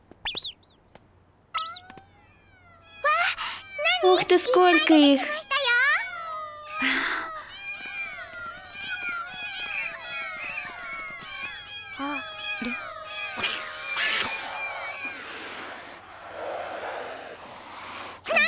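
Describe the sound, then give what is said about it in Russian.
A crowd of cats meows and yowls loudly over one another in a dense, overlapping chorus, with a child's voice exclaiming briefly near the start. “Кот.”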